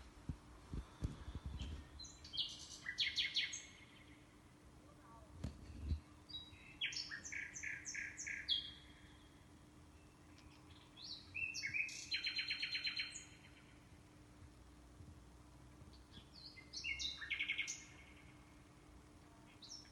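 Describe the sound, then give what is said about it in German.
A common nightingale sings several distinct phrases of rich, varied whistles and rapid trills, separated by short pauses, clear over a quiet outdoor background. “Damit ihr die Nachtigall draußen in der Natur besser von den anderen Vögeln unterscheiden könnt, hören wir uns jetzt noch ein paar Strophen an.”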